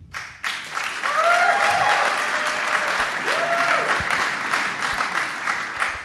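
crowd, audience cheering

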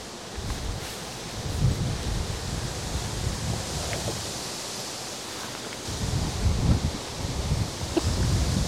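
nature, strong wind outdoors

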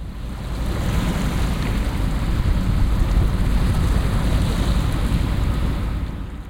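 nature, fast-flowing river water

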